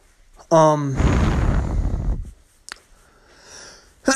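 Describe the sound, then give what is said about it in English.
A single loud sneeze: a short voiced, tonal intake leads straight into a long, harsh, breathy burst of noise that fades out after about a second, followed by quiet and a small click. “Bless you.”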